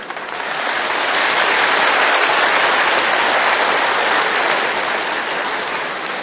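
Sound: audience clapping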